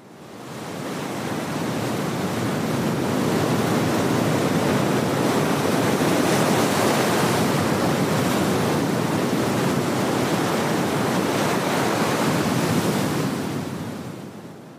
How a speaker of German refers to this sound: Wind oder Wasser, was war das? Also das ist der Klang von Wellen, vom Meer. Etwas, was im Internet angeboten wird für Menschen, die Schlafschwierigkeiten haben. Die sollten sich das anhören.